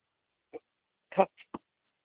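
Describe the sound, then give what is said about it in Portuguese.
A dog gives a few short, muffled barks, one single bark followed by a quick cluster of three, fairly faint. “Cachorro.”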